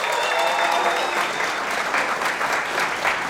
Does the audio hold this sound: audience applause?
yes